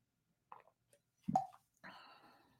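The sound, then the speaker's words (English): A few soft wet mouth clicks, then a single low gulping plop, followed by a brief breathy exhale as someone sips water. No one speaks. “Let me take a sip of the water here.”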